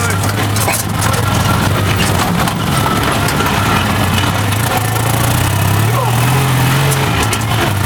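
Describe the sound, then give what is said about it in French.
A traditional Citroën 2CV Spéciale's engine runs with a steady, buzzing low drone heard from inside the car, its pitch climbing briefly as it revs, over constant rattling road noise. “Alors là, je suis dans la 2 chevaux.”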